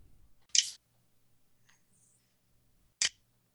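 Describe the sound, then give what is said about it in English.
A phone app on an iPhone gives two short, crisp clicks about two and a half seconds apart while it waits for the user to start scanning a paper label. Between them there is only faint low hum, with no talking. “That clicking says that I'm actually waiting. It's actually waiting for me to start scanning the paper.”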